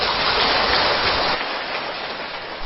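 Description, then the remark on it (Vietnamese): A dense, steady patter of many hands clapping together, fairly loud at first and easing slightly partway through, with no voices over it. “Tràng vỗ tay đó nên được hiểu là một lời tán thán đối với người bất đắc dĩ phải làm một cái nghề mà sự giàu sang của họ đó được đông đo tính điếm bằng cái sự độc tố, bệnh tật và chết chóc của con người và các chủng loại súng sinh.”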